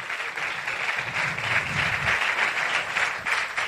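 A crowd applauds steadily, a dense wash of many hands clapping at once that holds at a fairly even loudness for several seconds without fading.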